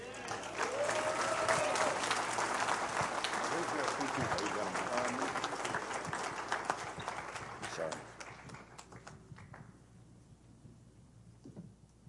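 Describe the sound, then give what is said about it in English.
A church crowd applauds to welcome a pastor in a dense, steady wash of clapping that stays loud for about eight seconds, then thins and fades out to scattered claps, with faint voices mixed in. “Thank you for applauding before I say anything.”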